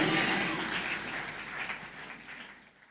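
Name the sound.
audience clapping hands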